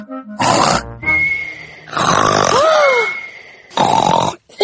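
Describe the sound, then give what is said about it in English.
A voice imitates the loud snoring of someone who always falls asleep: several rough, grunting snorts alternating with wheezy, whistling exhalations, forceful, with no talking. “Daddy says you always fall asleep and snore loudly, like this.”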